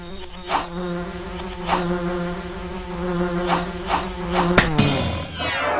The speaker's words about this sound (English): Oh no! What is that? It's the Queen Bee! I've never seen a such big bee before. Maybe I'll have to fight her.